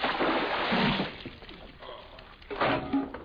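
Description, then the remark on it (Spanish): A bucket of cold water is dumped over a sleeping man in a blacksmith's back room, waking him: a loud splash that tapers off, then a second shorter slosh of water a moment later, with no talking. “Una voz nada familiar lo despertó de golpe, y con ello, un cubo de agua fría le cayó por encima.”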